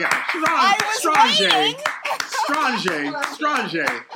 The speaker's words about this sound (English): Wow. I got to clap for that.